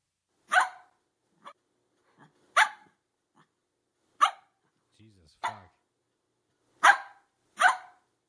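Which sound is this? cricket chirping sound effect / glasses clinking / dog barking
dog barking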